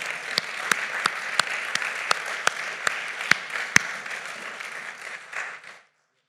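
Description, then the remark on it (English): An audience bursts into a steady round of applause for two men coming up to the front, dense clapping filling the room with a few sharper claps standing out, before it fades and stops abruptly. “everybody give a round of applause for Will and Kevin”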